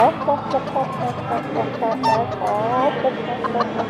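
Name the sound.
person imitating chicken clucking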